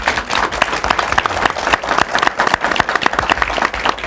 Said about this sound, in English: Let me ask you, would you, sure, go ahead and clap.